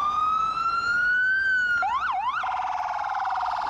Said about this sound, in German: In New York haben sie, für meinen Geschmack, bei den Krankenwagen noch eine Schippe Nervigkeit draufgelegt.